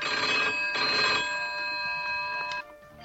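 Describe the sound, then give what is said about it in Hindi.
A telephone bell rings loudly in two clear bursts with a brief gap between, the bright metallic tones lingering and then cutting off near the end, with no voices present. “Phone बज रहा है, फोन उठाने की आदत नहीं रही क्या?”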